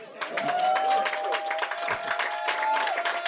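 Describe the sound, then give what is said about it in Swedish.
A crowd at Bonden bar claps in a dense, steady burst of applause, loud throughout, with a sustained whistle-like tone running underneath for most of the burst. “Jag har tänkt att någon skulle applådera.”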